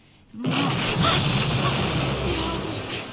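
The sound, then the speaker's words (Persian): A rocket explosion: after a brief hush, a sudden loud blast erupts into a broad, heavy rumbling roar that holds steady for nearly three seconds before easing slightly. “چی بود؟ صدای انفجار راکت بود.”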